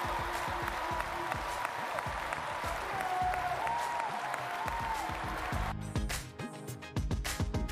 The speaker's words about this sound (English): But we're going to clap for you again, and I want you to receive it. I want you to receive it.